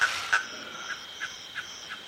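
A nighttime outdoor chorus in the Masai Mara reserve at Governors Camp, Kenya: steady high insect buzzing fills the background while short, regularly repeating frog or toad calls pulse every third of a second or so, moderately faint.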